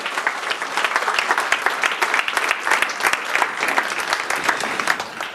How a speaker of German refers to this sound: Super Abschluss für diese Abschlusspräsentation von JugendHack 2020. Euer Applaus nochmal.